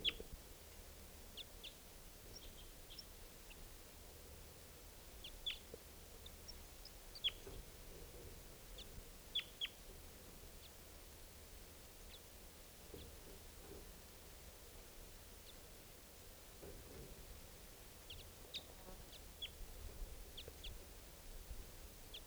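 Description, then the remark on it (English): Faint, high calls of a wild bird pop up at scattered moments over a steady background hiss. Each call is brief, and there is no talking. “The other wild bird is still here calling.”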